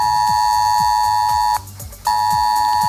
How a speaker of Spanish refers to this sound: Durante varios momentos del día, de hecho, el sistema de alertas S-Alert avisaba en los móviles a los vecinos del peligro inminente.